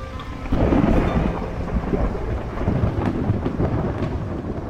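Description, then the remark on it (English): A monsoon thunderstorm: thunder rumbles in loud and low about half a second in, then rolls on over a steady wash of heavy rain, with no voices. “At the same time, we're waiting for the clouds to gather, the winds to kick up, the lightning to strike, for the rain.”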